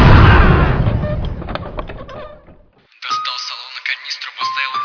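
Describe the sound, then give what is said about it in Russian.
A parking lot explodes: a loud, deep explosion bursts out and rumbles away over about two and a half seconds, followed by a brief silence and then clattering, scattered noise with a faint high ringing tone. “Взорвалась к черту парковка.”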